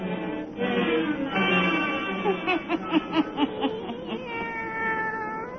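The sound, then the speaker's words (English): A black cat named Satan meows in drawn-out, wavering cries, breaking into a quick run of short mews midway before ending in another long, plaintive yowl. No one speaks. “Let us join old Nancy and Satan, her wise black cat.”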